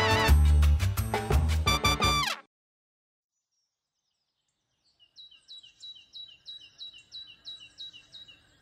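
A brief burst of loud music stops abruptly, and after a pause birds begin chirping in quick, repeated high-pitched phrases, fairly soft and steady, with no voices.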